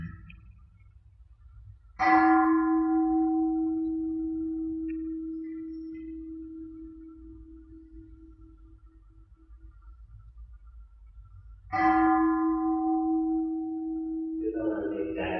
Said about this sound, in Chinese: 听这你钟声玩一玩，别让心僵硬。